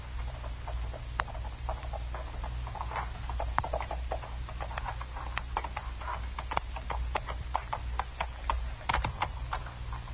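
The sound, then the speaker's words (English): Horse hooves clop in an uneven, continuous rhythm at a fairly steady loudness over a constant low rumble. No one speaks. “Well, let's tie my horse.”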